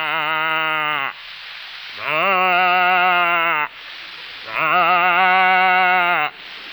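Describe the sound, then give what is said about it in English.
A human voice imitates a calf calling for its mother: three long, drawn-out bleating moans, loud, with breathy rasping gaps between them. “And a calf calling for its mama.”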